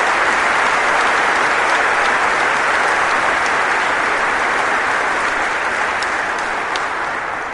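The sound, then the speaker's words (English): An audience applauds athletes coached by Tim Hyman who have stood up, the dense patter of many hands clapping held at an even, loud level for several seconds before easing off slightly at the end, with no voices heard. “Applaud them.”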